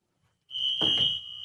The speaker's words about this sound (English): We're going through a fire alarm test here at the building. We go through these about every 3 months. For some reason, they're convinced that this building's going to catch on fire any moment.